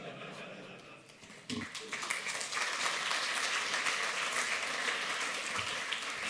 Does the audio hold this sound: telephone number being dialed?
no